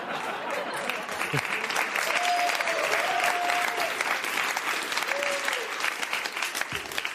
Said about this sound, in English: Oh, sure, the picture gets applause. Me, all my hard work.